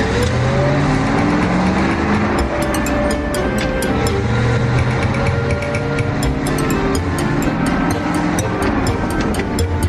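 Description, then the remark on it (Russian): A car engine is started and runs loud, its revving pitch climbing and shifting as the car is driven out of a yard and accelerates, with steady road rumble and no voices. “Старик зевнул, а Пашка завел машину и выехал со двора.”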